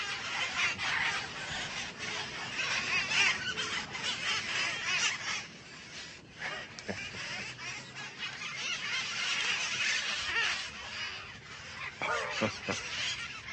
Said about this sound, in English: Est-ce que c'est des perroquets à toi? Non, excuse me, en anglais. Is it your parakeets? No, these are wild.